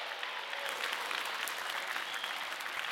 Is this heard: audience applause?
yes